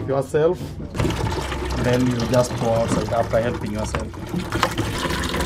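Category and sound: household object, water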